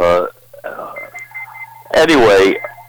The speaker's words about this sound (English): But there's my other phone. I'm not going to answer it.